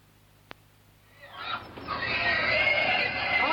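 After a brief click, pigs arriving in the morning start squealing loudly and continuously, a shrill, rising chorus of animal cries that builds and holds steady.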